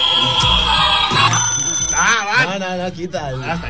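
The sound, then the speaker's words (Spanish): A toy alarm clock rings with a bright, steady electronic tone, fairly loud, as voices start talking over it and carry on once the ringing gives way. “Tenemos juguetes encima de la mesa y son los juguetes del cabello que nos han venido. Con el despertador de.”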